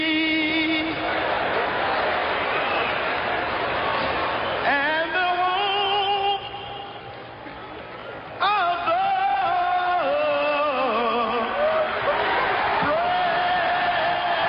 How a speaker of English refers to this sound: They're cheering not because it was a great rendition. They're cheering because it's over.